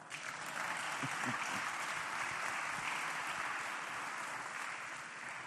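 Sustained audience applause fills the space, a dense, steady wash of many hands clapping at even loudness for several seconds before easing slightly at the end.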